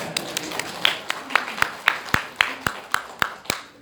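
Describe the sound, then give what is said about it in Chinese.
Audience applause that settles into steady rhythmic clapping: a dozen or so sharp, evenly spaced claps at a brisk pace, fairly loud, over a faint background murmur. “举手，有啊，哦，哇，感谢主，掌声。”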